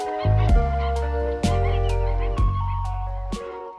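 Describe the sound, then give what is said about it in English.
A large flock of wetland birds calling in the shallow tidal wetlands of the Camargue Regional Park, with a dense, loud chorus of overlapping nasal, goose-like honks arriving in repeated bursts, continuous with no talking. “I was filming in the Camargue Regional Park when I came across a remarkable concentration of these birds in the shallow tidal wetlands.”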